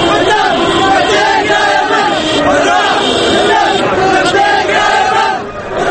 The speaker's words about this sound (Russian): Тысячи манифестантов выкрикивают антиправительственные лозунги. В последние недели такое скандирование можно было услышать в Тунисе, затем в Египте, теперь пришла очередь Йемена.